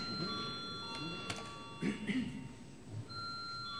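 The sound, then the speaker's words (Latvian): A steady electronic bell rings continuously for several seconds to call a vote in a parliament session, its sustained tones holding level, while faint murmuring voices and rustling sit underneath. “Lūdzu zvanu.”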